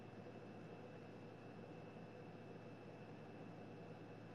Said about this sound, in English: I can hear the airplane. That's the AC, my friend.